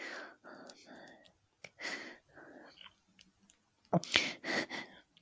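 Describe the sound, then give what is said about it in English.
Soft whispering gives way to a sharp wet mouth click and a few moist, smacking swallow sounds, like someone gulping with a mouth full of saliva. “Why am I gulping? I kind of salivate when I get excited when I talk to you.”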